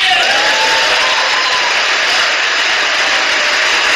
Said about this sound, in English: Now all the Republicans stand for the second applause line. Not the Democrats.